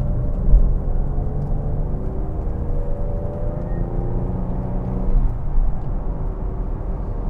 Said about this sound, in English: There's that whine, a little bit of whine going on in one of the drive wheels.